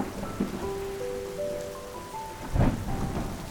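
Steady rain hisses across the whole clip, falling outside a building on a taxi, with a low rumble of thunder swelling partway through and faint musical tones drifting underneath.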